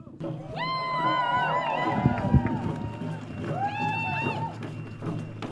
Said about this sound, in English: After the speakers, the large crowd marched through the streets of Plymouth.